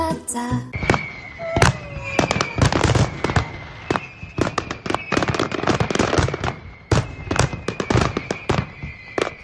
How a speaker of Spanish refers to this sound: Así es, como sonaba, hace exactamente un año el disparo del Castell de Loya, el mayor espectáculo piroacuático del Mediterráneo que volverá a iluminar la Bahía de Altea el próximo sábado.